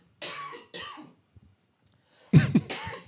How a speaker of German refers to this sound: Warte, ich muss kurz husten.